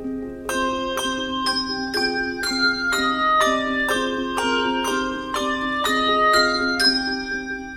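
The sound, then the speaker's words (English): A handbell choir rings out a single melodic line, one clear bell note after another at a steady, moderate pace, each tone bright and sustained with shimmering overtones and no voices. “And that exposed single line is a really challenging skill for an ensemble to achieve in order to have all of those notes ringing musically and together with the same dynamic or sense of line as it's moving.”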